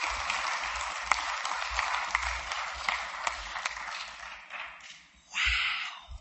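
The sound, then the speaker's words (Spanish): A crowd at a morning recovery meeting applauds a speaker steadily for about five seconds in a dense, crackling patter of many hands, easing off slightly before a brief brighter swell of clapping at the end. “Un aplauso, por favor.”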